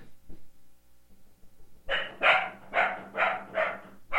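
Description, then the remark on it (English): A dog barks repeatedly, about five or six sharp barks in a steady rhythm, fairly loud after a quiet start with faint low background noise. “Yeah, we got one barking in the background.”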